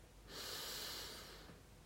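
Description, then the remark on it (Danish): A single deep breath drawn in during a guided breathing exercise, an airy rushing sound swelling for about a second before fading into quiet. No one speaks. “Tag så en dyb indånding.”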